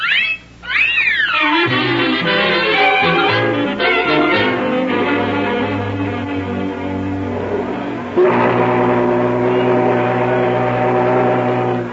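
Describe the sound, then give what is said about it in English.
A boat whistle sounds in loud, sustained, harmonic blasts over a steady low rumble, with a few quick rising and falling tones at the start and no voices. “Listen! The whistle! We'll have to run for it!”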